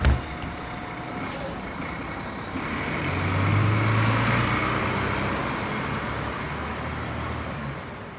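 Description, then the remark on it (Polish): A large city bus rumbles in, its engine growling low and steady, with a burst of air brakes hissing as it pulls up amid street traffic noise. “O, mój autobus jedzie.”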